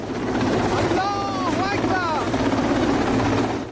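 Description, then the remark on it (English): A helicopter hovers as masked troops of Iran's Revolutionary Guards rappel from it onto the deck of the British-flagged oil tanker Stena Impero in the Gulf, its loud, steady rotor roar and low throbbing continuing throughout, with a brief burst of indistinct voice or radio chatter partway through. “Troops wearing masks and carrying machine guns rappelled onto its deck from a helicopter.”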